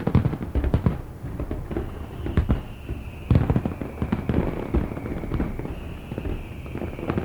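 Fireworks and firecrackers go off in a dense, irregular barrage of sharp bangs and crackling pops, with a steady high whistle threading through the middle and end.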